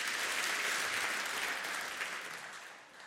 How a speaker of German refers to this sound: Und deswegen jetzt erstmal auf die Bühne. Und aus Friesland, so einen großen Applaus